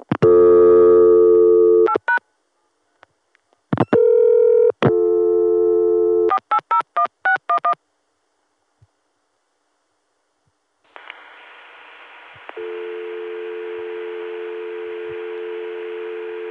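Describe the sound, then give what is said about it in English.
A steady PBX dial tone, reached on 6 via 480, drones over a telephone line, broken up by short bursts of touch-tone dialing beeps, then returns as a continuous, fairly loud tone with faint line hiss. No one speaks. “Here's calling the dial tone that we get on 6 via 480.”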